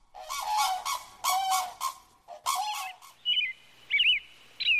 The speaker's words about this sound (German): Der Kranich.